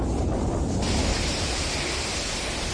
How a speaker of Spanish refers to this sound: Así suena el viento y el agua en Galicia. Tenemos un sábado de temporal con viento fuerte, muy fuerte, en gran parte de la mitad norte de la península.